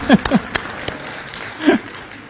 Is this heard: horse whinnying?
no